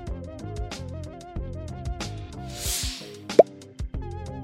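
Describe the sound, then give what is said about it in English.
A single bright plop of condensed water dripping from a plastic sheet into a container, crisp, rising briefly over steady background music with no voices. “Put a small stone in the middle of the construction to make condensing water drip right into the container.”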